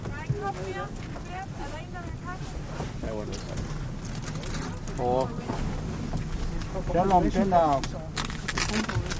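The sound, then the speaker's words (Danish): A small boat's steady low rumble and gusty wind noise out on the icy Arctic sea, with voices talking over the continuous drone; the people aboard, with two whalers, are collecting algae and water fleas for a monitoring project. “Vi er i en lille båd ude på ishavet for at samle alger og vandlopper til monitoreringsprojektet”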